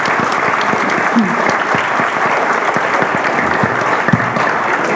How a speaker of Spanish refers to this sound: En este día contamos con la distinguida presencia en el Presidium del Dr. Jesús Rodríguez Almeida, Secretario de Seguridad Pública del Distrito Federal, para quien pido un caluroso aplauso, por favor.